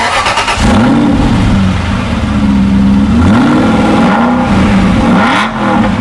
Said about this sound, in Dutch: En dat was dus een Aston Martin. Kleur was wit